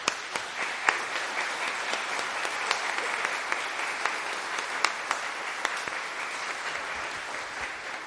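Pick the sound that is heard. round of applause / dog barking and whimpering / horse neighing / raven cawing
round of applause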